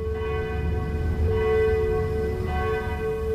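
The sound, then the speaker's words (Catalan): A dense wash of many bells ringing at once, produced by a cannon when an artilleryman presses its button and spreading from trench to trench, their overlapping tones sustained and resonant over a heavy low rumble, loud and continuous with no voices. “L'artiller va pulsar altre cop el botó i un altre concert de campanes es va difondre de trinxera en trinxera. Semblava com si toquessin juntes totes les campanes del nostre país.”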